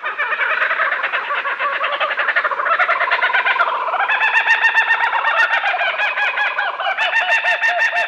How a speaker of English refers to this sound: This oddly familiar, crazed laughter belongs to the laughing kookaburra of Australia.